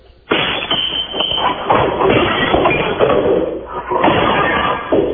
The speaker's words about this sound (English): I'm at a job site out in the plains, and I'm going to be busting some ceramic tile.